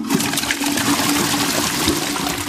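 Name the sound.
toilet flushing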